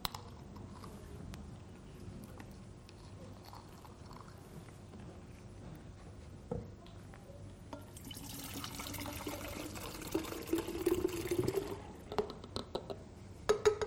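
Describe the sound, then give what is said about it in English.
Two sources of water, one of them brown, bitter water, pour steadily together into a jug, starting as a low trickle and swelling into a bright, splashy rush around the midpoint, fairly loud, with no one talking. “What would happen if we take these two sources of water and we pour them into the jug together?”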